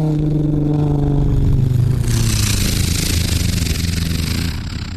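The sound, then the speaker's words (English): A voice imitates a WWII Hurricane fighter plane flying past about 100 meters away: a loud, steady droning engine roar whose pitch slides downward, growing rougher and hissier halfway through before easing off at the end. “I do World War II airplane sounds all the time.”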